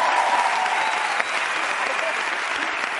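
Steady, dense audience applause fills the whole stretch, a continuous crackle of many hands clapping at an even, fairly loud level with no clear individual claps standing out.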